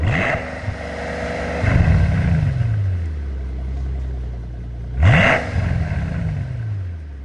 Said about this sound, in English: what kind of burble that exhaust would get? Yes, it has a wonderful burble.